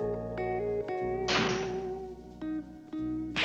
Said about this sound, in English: Briefcase in hand, Charlie approaches his mailbox. He opens it, looks inside, and pokes around. Frowning, he slams the lid shut and bangs his briefcase on top of the mailbox.